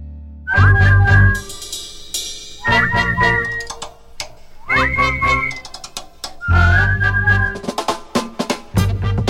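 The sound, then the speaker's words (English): People whistle a tune together in four short phrases, with bright sliding notes over a punchy, bass-heavy backing that repeats in a steady rhythm. It's loud, with no talking. “Hey, let's whistle it together.”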